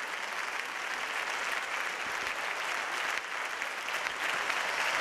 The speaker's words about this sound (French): les conséquences sur les débats dans l'hémicycle et sur une image, une prestation de 25 minutes papale longuement applaudie.